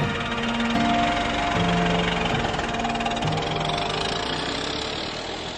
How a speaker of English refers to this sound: Well, he fixed that with an axe and got his car started and coaxed his two-cylinder engine into life and drove off into his future and ours.